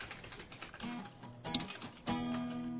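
Rapid, uneven clicking of fingers typing on a computer keyboard, fairly close, with a low steady hum underneath and no one talking.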